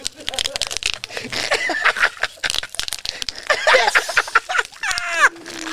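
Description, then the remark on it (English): Bubble wrap being popped: a rapid, irregular series of sharp snaps and crinkles, fairly loud, with laughter and a few voiced exclamations mixed in, including a sliding whoop near the end. “When I was a kid, I looked forward to getting new furniture just to fucking pop the bubble wrap.”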